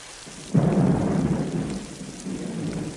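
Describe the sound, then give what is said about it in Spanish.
Steady rain hisses throughout, and a deep rumble of thunder rolls in about half a second in, swelling loudly before fading back under the constant downpour. No voices. “Déjame que te lo diga antes de que pare la lluvia y volvamos a casa.”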